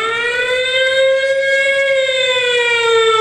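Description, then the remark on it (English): A loud, steady siren wails continuously, its tone rising slightly then gently falling, with rich harmonics and no voices over it. “Because that siren will be going off if you get on to the bathroom for real after having you one of those.”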